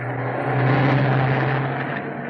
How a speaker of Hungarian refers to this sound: Istenem, egy autó.